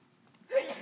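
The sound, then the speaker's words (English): A single sneeze bursts out after a moment of near silence, a sudden breathy blast of noise that stays fairly loud to the end, with no talking. “Bless you.”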